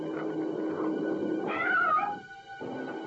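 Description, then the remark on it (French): A cat meows once in a drawn-out, rising and falling cry, heard clearly over a steady hum of background game music and ambience. “Comme ici, dans l'inconscient du rat, se trouve la réponse pour éviter le chat.”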